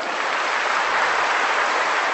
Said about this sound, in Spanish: Hasta ahí, hasta ahí. Es un aplauso fuerte, como cuando se rompe una cadena. Además dijimos que era un aplauso, no 2 ni 3.